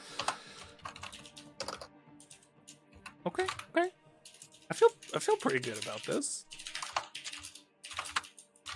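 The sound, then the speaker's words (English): Quick bursts of clicky computer keyboard typing run throughout, with brief pauses, while a person speaks a short remark partway through; the person is typing a list of video game characters who build things. “Sorry, I'm literally just typing video game characters who builds things.”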